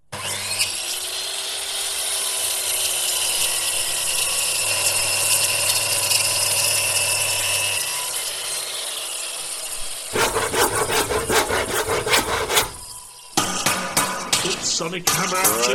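A loud Black & Decker power tool whines steadily for about ten seconds as the Zero Room is dismantled, then gives way to harsh, rhythmic grinding and cracking bursts like wood being broken apart, with no one speaking.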